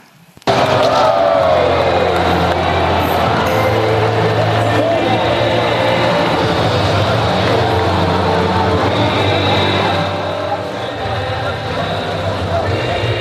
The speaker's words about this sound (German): Eine kurze Jubelphase, wo wir die Champions League gewonnen haben letztes Jahr.